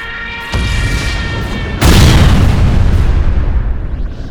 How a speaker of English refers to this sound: Crap. It's going to crash into the pad. Run!